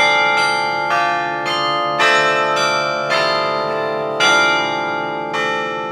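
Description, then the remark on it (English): Carillon bells ring out from a new tower on the IU campus in a steady sequence of struck notes, roughly one strike every half second or so, each leaving a shimmering harmonic ring that overlaps the next; loud and resonant, no voices. “Here at IU, since the tower is so new and we started during COVID, I think we were given a lot of freedom in terms of ringing the bells.”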